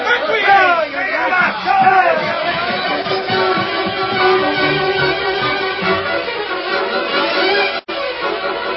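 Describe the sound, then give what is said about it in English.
An angry lynch mob, roused by Cobb Morgan in a cafe where a bartender was killed, murmurs and grumbles: many overlapping voices form a steady, loud babble with no single clear speaker, broken by a brief sharp dip near the end. “Cobb Morgan roused crowd into lynch mob in cafe where bartender was killed.”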